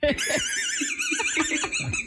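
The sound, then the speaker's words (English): A boy with the squeaker from a dog toy lodged in his esophagus laughs, his breaths coming out as a shrill, wavering squeaker whistle, warbling continuously like a whinny, over choppy low bursts of voice. “Every time he goes to talk, it's the squeak.”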